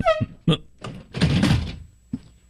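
A chair is grabbed and shifted: a couple of sharp thunks, a louder knock, then a longer scraping drag and one last soft bump. No one speaks.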